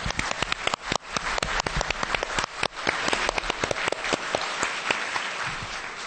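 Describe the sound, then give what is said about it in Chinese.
An audience at a 2008 seminar on global warming and climate change bursts into sustained applause to thank the Taipei County Government, many hands clapping densely and steadily for several seconds with no one speaking over it. “是的，让我以热烈的掌声谢谢台北县政府为遏止全球暖化所做的一切努力，请掌声，谢谢。”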